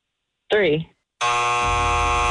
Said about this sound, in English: I think my buzzer is stuck. It keeps going off. I don't know what's going on.